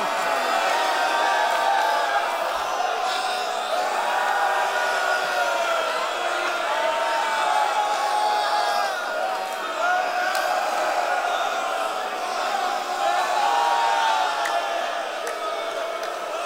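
A large crowd shouts and wails together in a dense, continuous roar of overlapping voices, loud and steady for the whole stretch, with individual cries rising and falling inside the mass.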